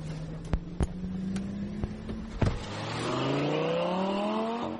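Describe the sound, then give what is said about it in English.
An orange Lamborghini sports car engine in Beijing, China idles with a few sharp clicks, then roars up as it accelerates, its pitch climbing steadily and holding loud. “Needless to say, this is my first time in a Lamborghini, let alone an orange Lamborghini. Here we go.”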